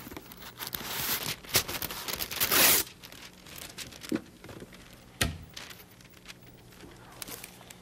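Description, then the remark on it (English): Crisp wax paper rustles and unrolls as it is pulled out to make a comb instrument, building into a loud, ripping tear around the middle, followed by a few scattered crinkles and light handling taps. “So I'll get some wax paper out here.”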